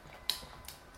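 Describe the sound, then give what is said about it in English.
Three soft, quick hand claps at uneven intervals as a person claps another person's hand, quiet, with no talking in between. “I'm clapping your hand.”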